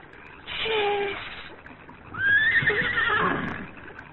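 A horse whinnies twice, two loud, wavering neighs separated by a brief pause, with faint hoof clops and shuffling underneath. No one speaks.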